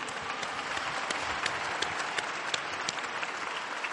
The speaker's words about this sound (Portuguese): E um aplauso ai nonni!